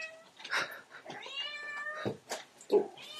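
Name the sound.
kitten meowing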